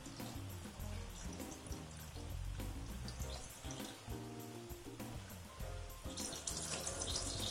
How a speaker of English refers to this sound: Actually, it's a series of shit videos called Nasty Enema. Here's part one of a four-part series. You're really just going to hear, I believe, liquid being shot out of this guy's ass.